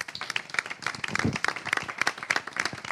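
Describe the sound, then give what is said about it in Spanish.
An audience at a festival applauds steadily for a speaker about to give her talk, many hands clapping together in a dense, crackling patter that holds at an even, moderate loudness for a few seconds with no one speaking. “Y le pido un aplauso para que ya se le quiten los nervios.”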